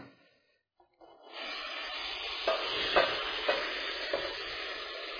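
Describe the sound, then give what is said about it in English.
Boiling water from one pot pours steadily into a second pot in a harvest kitchen, a continuous rushing, sizzling hiss that starts after a brief quiet moment, with a few soft metallic clinks along the way. No one speaks. “And I'm going to transfer that water over into the other pot.”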